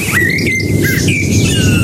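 A blackbird in a garden in the Allgäu whistles the Antenne Bayern radio jingle melody, a few clear fluting notes rising and falling in a steady phrase, over a constant rough background hiss.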